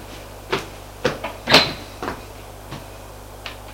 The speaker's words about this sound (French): Le garde va ouvrir la porte.